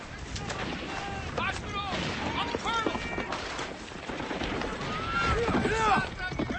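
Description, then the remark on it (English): A soldier rides a galloping horse, its rapid hoofbeats mixed into a dense, noisy scene of gunfire-like bursts, an explosion and shouting voices, staying fairly loud throughout. “He rides here.”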